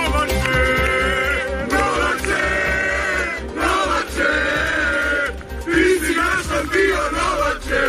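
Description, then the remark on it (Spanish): A large crowd roars and chants in loud, continuous waves of acclamation, many voices shouting together with rising bursts of cheering and no break in the sound, as it welcomes Novak Djokovic at midday at the airport in Warsaw. “Buenas tardes, con estos gritos de aclamación y algún panel luminoso gigante en el que podía leerse Novak, eres el orgullo de Serbia, han recibido a mediodía en el aeropuerto de Varsovia Novak Djokovic”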